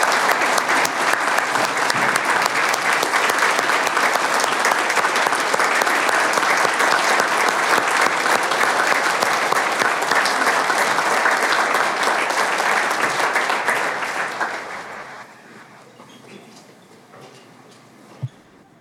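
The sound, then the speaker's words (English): Sustained audience applause at an evening meeting, thanking a department's leadership team and staff: a dense steady clatter of many hands clapping for about fourteen seconds before tapering off quickly into near silence, with one faint sharp knock near the end. “And I think it's worthy of an applause for yourselves and for those of you who work for them to say thank you.”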